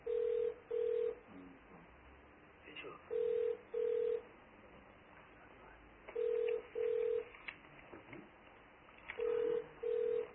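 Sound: mobile phone ringing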